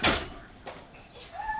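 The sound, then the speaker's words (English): A door moving in the wind thumps loudly at the start, knocks again more softly, then its hinge lets out a rising creak as it swings, with no voices. “Watch the door with the wind.”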